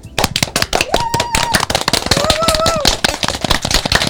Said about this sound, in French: Et ce quiz a été remporté par les nous. Un tonnerre d'applaudissements pour eux.